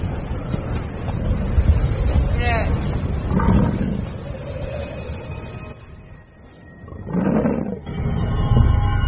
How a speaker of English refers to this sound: Benign one minute, life-threatening the next. Even in spring, winds chill to the bone. The calf must stay close to its mother to avoid getting lost in the sudden blizzard.